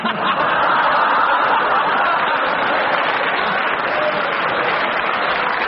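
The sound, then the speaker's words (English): An audience applauds steadily and loudly for several seconds, a dense unbroken wash of clapping with a little laughter mixed in and no talking. “You mustn't get applause.”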